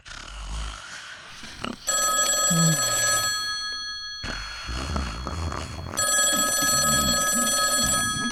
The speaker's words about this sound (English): Phone's ringing, Danny.